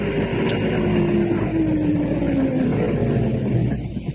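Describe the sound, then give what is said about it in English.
An approaching car with its lights on, in flat country; its engine hums steadily and fairly loud, its low droning pitch shifting slightly as it runs continuously, with a broad rumble of road noise and no voices. “But as the lights and the sound of the engine got nearer, she was at first uneasy, then plainly scared.”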